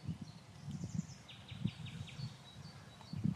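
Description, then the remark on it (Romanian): Several birds of many species call and trill at once, with short repeated high chirps and whistles layered over a low outdoor rumble, a dense chorus in the forest next to the Măgureli platform in Romania. “Dacă în Bistrița am fost întâmpinat cu triluri de privighetoare, aici cred că e o densitate mai mare de specii.”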